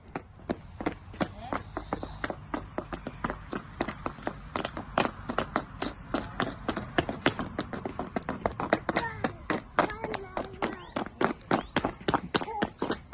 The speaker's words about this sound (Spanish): nos invita a escuchar a su hija y a su hijo cuando se han puesto unos zapatos estos de taconear